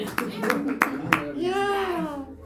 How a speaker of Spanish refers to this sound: Señoras y señores, un aplauso para el ñau.